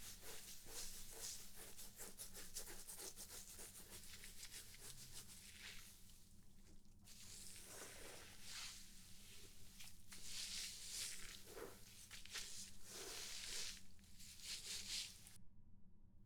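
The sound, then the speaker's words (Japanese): Continuous squishing and rubbing of lathered hair during a shampoo scalp massage, with steady wet friction and soft crackling foam that keeps going throughout, no voices present. “はい、マッサージはここまでにしましょうか。それでは、シャワーでシャンプーを流します。”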